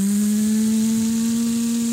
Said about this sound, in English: So it's a lawnmower, right? You're firing up your lawnmower? That was more of a blender. Oh, it's your Vitamix, your blender. Yeah, yeah. You're adding the different ingredients.